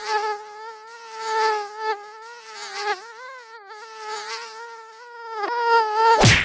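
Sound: mosquito buzzing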